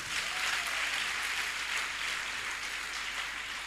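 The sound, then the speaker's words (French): An audience applauds to acclaim the disciples, a dense wash of many hands clapping at once that holds an even loudness throughout with no voices coming through. “Est-ce qu'on peut acclamer les disciples?”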